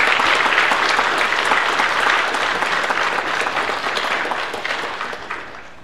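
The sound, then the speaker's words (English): An audience at a church worship service applauds steadily to welcome a child into the communion of saints, a dense wash of many clapping hands that holds strong for several seconds before tapering off toward the end. No one speaks over it. “With applause, let us welcome”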